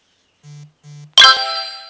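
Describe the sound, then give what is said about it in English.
A phone notification chime: two short, low buzzy tones followed by a loud, bright bell-like ding that rings and slowly fades. No one speaks. “Shush, phone, no one invited you.”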